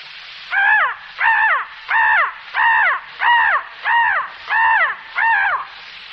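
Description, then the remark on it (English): A person imitates a crow, cawing eight times in a steady, even rhythm, each harsh call loud, with brief pauses between them and no other sounds. “And one of the most destructive of all birds, the crow.”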